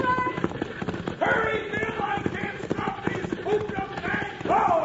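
galloping horse hooves

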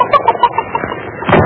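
hen clucking

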